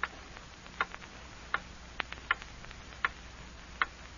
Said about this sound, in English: Hear that clock?